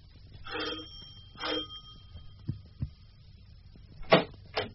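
A doorbell rings twice with buzzy, ringing tones and a lingering high hum, followed by two dull thumps and then two more short rings, moderately loud with no talking.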